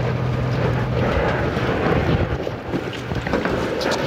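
A small ferry boat carrying 10 people heads out to an island. Its engine drones steadily with a low rumble, mixed with rushing water and gusts of wind buffeting the microphone, a continuous loud wash of noise with no voices.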